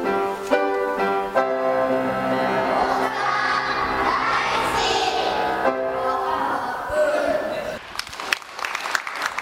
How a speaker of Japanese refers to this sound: 児童たちの大熱演に会場からは大きな拍手が送られました。